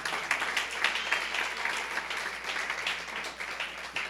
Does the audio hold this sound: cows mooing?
no